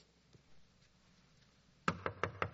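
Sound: knocking on a door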